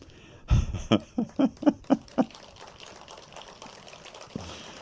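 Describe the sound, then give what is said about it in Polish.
A short burst of audience applause: about eight sharp, evenly spaced claps in quick succession, then fading into a low, scattered crackle of noise. “dziękuję za te oklaski.”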